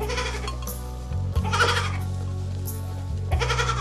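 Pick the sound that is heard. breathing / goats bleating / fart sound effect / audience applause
goats bleating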